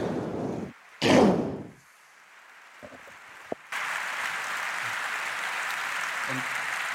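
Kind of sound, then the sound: crowd, applause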